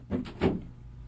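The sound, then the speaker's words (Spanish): The door of a study in a gloomy old house swings shut with two quick, solid knocks, a short clunk and then a heavier thud, followed by quiet and no voices. “Cierra la puerta, Alipio.”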